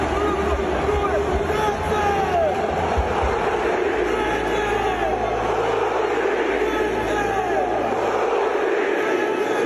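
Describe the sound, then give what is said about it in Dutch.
A huge stadium crowd at an Inter match in Italy roars and chants continuously after Denzel Dumfries scores, with an amplified announcer's voice calling out 'Denzel' over the dense, echoing din of thousands of people. “Er staat een mannetje op de microfoon heel hard Denzel te roepen. En dat hele publiek en we zijn helemaal uit zijn dak te gaan.”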